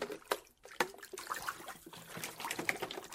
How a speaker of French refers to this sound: Oops! We made big waves. Oh là là! On a éclaboussé partout!